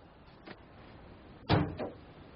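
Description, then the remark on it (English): A door shuts with a solid, fairly loud thud and a short rattle after it, preceded by a faint click, with no talking. “They ain't leave the door open for. Letting all the coal in.”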